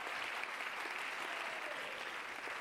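A group of people claps steadily to give praise to God, a dense, continuous wash of applause with no talking over it.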